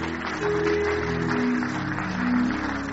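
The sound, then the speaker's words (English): A large crowd at a worship gathering claps steadily and continuously as families come forward, a dense wash of applause with a few sustained musical tones faintly underneath, no voices standing out. “Please keep clapping as they come.”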